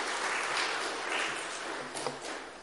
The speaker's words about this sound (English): It's the last applause you're going to get as a deacon.